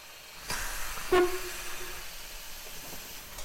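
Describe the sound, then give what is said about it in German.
A steam locomotive sits idling on a siding with a steady, breathy hiss, broken early on by a couple of sharp bursts and a brief low tonal note. No one speaks. “Die Dampflok wartet auf dem Nebengleis.”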